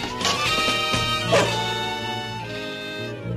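A dog named Tiger barks and yips a few times, bright and fairly loud, with a brief whimpering tone between the sharper calls and no voices.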